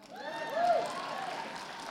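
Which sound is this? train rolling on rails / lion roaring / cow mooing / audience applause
audience applause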